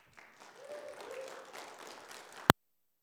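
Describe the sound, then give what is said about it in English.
An audience breaks into applause, a dense wash of many hands clapping at a steady, moderate level for a couple of seconds, ending with a sharp click as the sound abruptly cuts off. “Round of applause.”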